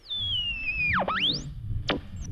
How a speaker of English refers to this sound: There you are on your easy chair. You're maybe drinking a cream soda. Let's tune the dial. Okay.